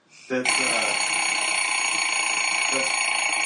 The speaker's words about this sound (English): That is our new timer. That's from Outsource.